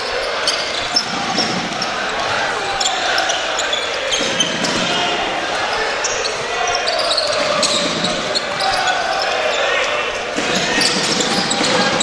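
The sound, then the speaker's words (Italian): Riccardo Rossato dribbles a basketball on the court, then stops and shoots a three, the repeated bounces set against a steady roar of arena crowd noise while a voice talks over the action. “Rossato, il palleggio, arresto e tiro da tre, fallo ingenuo da due, sì, fallo ingenuo di Galloway”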